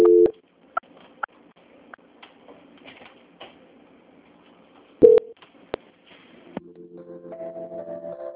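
A phone line transfer tone as a call is transferred to a bank analyst in São Paulo: a short electronic beep, scattered clicks and line noise, another beep, then a steady run of stepped electronic tones at moderate volume, with no voices.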